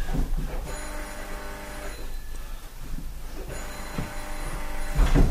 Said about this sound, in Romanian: Telefonul! Sună telefonul! Trebuie să fie Jaffe sau unul din prietenii mei.